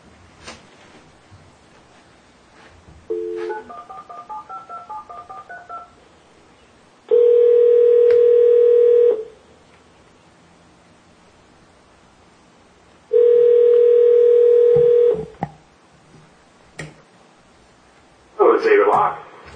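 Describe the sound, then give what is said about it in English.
A quick run of touch-tone dialing beeps as the Taney County Board of Equalization phones a caller's number, about a dozen short tones in rapid succession, followed by two long, loud ringing tones on the line separated by a pause. “I apologize, but I'm going to ask you for that phone number one.”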